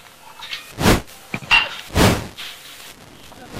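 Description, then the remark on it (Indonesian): A door slamming shut: two loud, heavy thuds about a second apart, with a couple of smaller knocks and clatters in between and faint background noise. “Pintu.”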